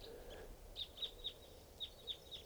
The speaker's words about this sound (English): Flock of big flock of crossbills just flew in here. Sound like type twos must be about 10 or 12 birds.